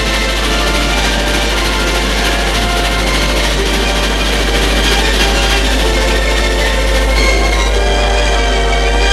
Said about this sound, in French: Enfin, le train arrive à destination.